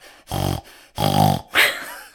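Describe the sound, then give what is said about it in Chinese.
A person imitates a pig, making three snorting, nasal grunts in quick succession, each a short buzzy burst, with the last one breathier and higher. “并不是所有人都可以学猪叫，可是我从小就会学猪叫，因为我哥在擤鼻涕的时候，就像你刚刚的声音一样，我真的会有，我做给你看哦。”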